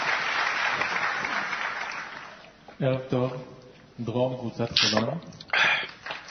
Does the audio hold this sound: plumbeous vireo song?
no